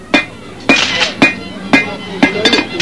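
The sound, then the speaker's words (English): A blacksmith strikes metal with an old hammer once used by his grandfather, about eight blows in an uneven rhythm, each loud with a bright metallic ring that briefly lingers between hits. “This hammer? My grandfather used this hammer. It still works perfectly. Watch.”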